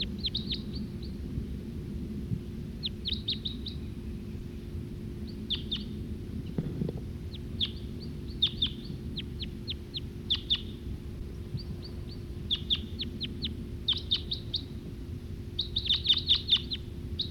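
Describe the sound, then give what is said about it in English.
A male bird sings, in song flight and perched in a tree, repeated bursts of high, thin chirps and trills, pausing briefly between phrases, over a steady low rumble with no talking. “Here comes that male again. That male who was singing. He's perched back up there in that tree.”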